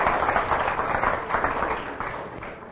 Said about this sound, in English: How about a wonderful round of applause for the last speaker of the day